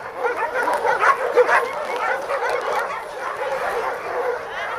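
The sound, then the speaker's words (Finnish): A dense chorus of many dogs barking, yipping and whining at once, overlapping continuously with no pauses, loud and echoing, at a dog shelter with about 200 dogs in Gatchina near St Petersburg, Russia. “Nämä koirat haukkuvat Pietarin lähellä Gatsinan kaupungissa, tarhalla, jolla on noin 200 koiraa.”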